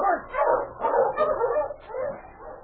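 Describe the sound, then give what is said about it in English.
A dog, King, Sergeant Preston's great dog, barks and yips excitedly in a quick, nearly continuous run of loud calls, with brief pauses between bursts and no talking, on a branch trail heading back to Selkirk. “On a branch trail a few miles ahead, Sergeant Preston and his great dog, King, were heading back to Selkirk after making a trip back into the hills.”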